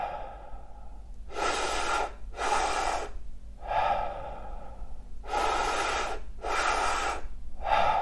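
Deep, audible breaths in a steady rhythm during a breathwork exercise done lying down, about five or six full inhales into the belly and chest followed by letting go, each one broad and airy with short pauses between, and no talking.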